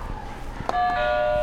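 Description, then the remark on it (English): A click is followed by a loud, steady electronic buzzer tone that starts abruptly and holds one pitch with bright harmonics until the end, over a low background hum. “You hit another buzzer for me?”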